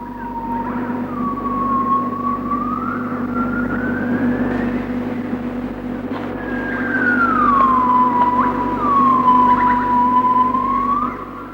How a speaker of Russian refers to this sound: В джунглях невозможно оставить магнитофон не включенным. Это особая удача. Крик гиббона.